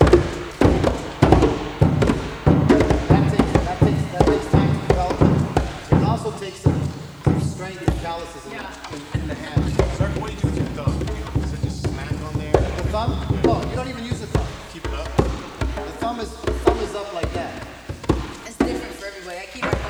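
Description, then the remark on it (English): Conga drum played by hand: a steady stream of sharp, loud strokes mixing open tones with crisp slaps, with a voice briefly audible partway through. “What we're getting at with that third close note is a slap, okay?”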